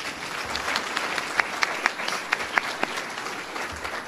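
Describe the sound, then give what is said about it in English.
A crowd claps steadily for about four seconds, a dense patter of many hands with a few sharper individual claps standing out, moderately loud with no talking over it, applauding the crew who helped set up tables for the event. “If you could also give them a round of applause.”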